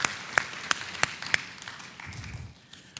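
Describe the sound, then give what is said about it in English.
A church audience applauds itself as a church, a dense patter of many hands with a few sharp, loud claps standing out early on, the clapping gradually thinning and softening toward the end. “And so I'd like us to give ourselves a round of applause, actually, as a church.”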